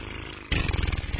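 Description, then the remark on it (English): A voice imitates a motorboat engine with a buzzing lip trill, a rapid rumbling flutter that starts abruptly and runs steadily and fairly loud for under a second. “We all making boat sounds now? That's a horse sound, isn't it?”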